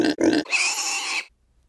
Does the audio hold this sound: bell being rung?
no